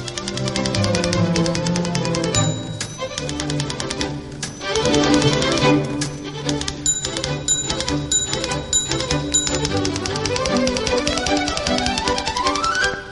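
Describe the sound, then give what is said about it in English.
Rapid, forceful clacking of typewriter keys being struck very hard in an office in the morning fills the scene, loud, with bright carriage bell dings ringing out now and then over the steady clatter. No one speaks. “you're bashing the typewriter very hard this morning.”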